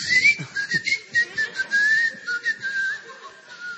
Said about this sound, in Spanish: Tirabuzones dorados y plateados con silbido. Nunca vi un tirabuzón con silbido. Usted abre una botella de vino y... No, señor, este le dispara, es un silbido. Mucho mejor es.